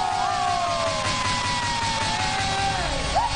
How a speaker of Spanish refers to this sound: Recibimos con un fuerte aplauso a ese hombre